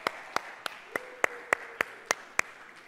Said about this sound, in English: When we clap at the end of a song, I hope you know we're worshiping God. We're clapping for God. That's not like we've just had a performance and we're telling you good job. We're clapping for the Lord.